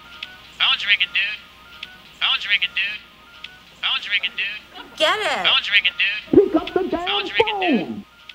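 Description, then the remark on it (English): A phone rings in repeated short, bright electronic bursts while voices talk over and between the rings, with a louder voice rising toward the end. “Phone's ringing, dude.”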